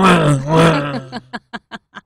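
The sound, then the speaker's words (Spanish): A voice imitates a Formula 1 race car, a loud buzzing engine drone with wavering, swooping pitch for about a second, followed by five short, evenly spaced breathy bursts like laughter. “Ese sonido es genial. Mira, yo no sé si lo haces súper bien, parece que hubieras estado allí.”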